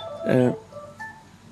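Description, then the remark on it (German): A telephone rings: one short, bright electronic burst, then a couple of fainter tones trailing off. “Ja, das klingelt.”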